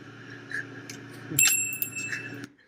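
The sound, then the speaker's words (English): A bell is struck once and rings out with a bright, shimmering tone that lingers and fades over about a second, over a low steady background hum, with no one speaking. “And then he rings the bell.”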